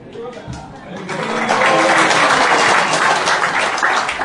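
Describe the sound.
An audience breaks into applause while saying Hari Bol, steady crowd clapping that swells after the first second and stays loud and dense, with voices calling out and chattering underneath.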